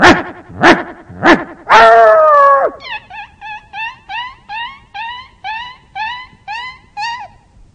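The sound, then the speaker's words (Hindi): A human voice on stage mimics a dog hit by a thrown stone: three sharp loud yelps, a drawn-out pained cry, then a fading string of about ten quick, rhythmic whimpering yips as the dog runs off. “बाजू से पत्थर लिया मारा, कुत्ता मार खा के भागता है, उस समय की आवाज सुनाई देती है, ये भी स्टेज छोड़ के वैसे ही भाग रहे हैं”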